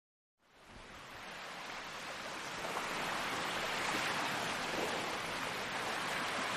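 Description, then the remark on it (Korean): Steady roar of surf washing onto a wide sandy beach, waves constantly making white foam, a dense hiss of breaking water that swells in and then holds loud and continuous, with no voices. “철썩이는 파도는 이 해변에서도 어김없이 하얀 포마를 쉼없이 만들어내고 있었다.”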